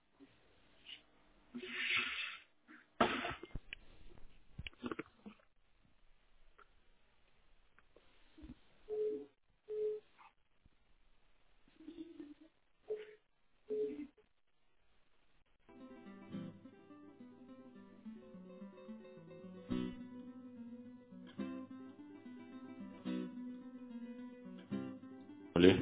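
A phone ringtone plays on an incoming call as a steady, melodic electronic tone for about ten seconds, after scattered short knocks and rustling bursts. No one speaks over it.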